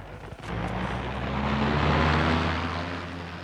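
A steady engine drone with a low tonal hum swells to a peak midway and then eases slightly, like an aircraft idling or taxiing at an airport. No voices.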